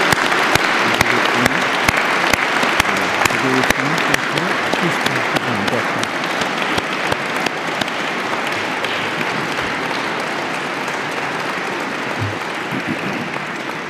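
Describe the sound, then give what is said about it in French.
Sustained applause from a large audience for the 2017 prize and medal laureates as they stand, a dense steady clatter of many clapping hands that continues for the whole stretch, gradually easing slightly in loudness toward the end. “Ces lauréats voudront bien donc se lever à leur tour et vos applaudissements vont conclure l'hommage qui leur est dû.”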